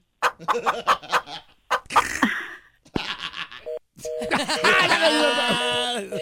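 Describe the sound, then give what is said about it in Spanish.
A hen clucks in a quick run of sharp, choppy bursts for a few seconds, followed by steady electronic tones like telephone beeps playing fairly loud. “Mire lo que dice la gallina.”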